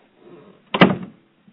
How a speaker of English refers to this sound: So I'm going to shut this door again. I want you to hear the sound effect.